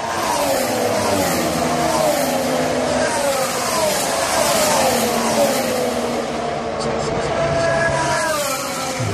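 A loud, low-pitched engine drone with stacked harmonic tones that sweep downward as it passes, a sustained Doppler glide lasting the full nine seconds with no pauses.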